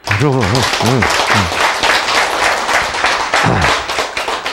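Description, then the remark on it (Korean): A crowd breaks into steady applause, a dense wash of many hands clapping at a constant loud level, with a few voices briefly calling out over it near the start. “박수.”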